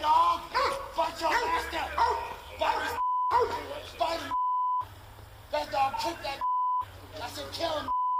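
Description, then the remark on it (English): A police dog barks excitedly as it is released on a suspect armed with a knife, amid loud, overlapping shouting voices, with several sharp electronic bleeps cutting in and brief silent gaps between bursts. “So yet we have another canine being released on a bad guy who they know has got a knife on him.”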